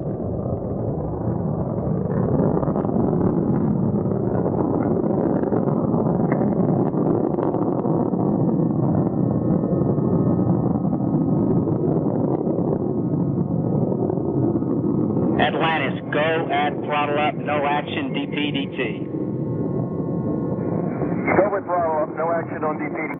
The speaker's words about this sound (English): into the flight, the three liquid fuel main engines throttling back to 72% of rated performance in the bucket, reducing stress on the shuttle as it goes transonic for the final time. Engines now revving up, standing by for the throttle up call.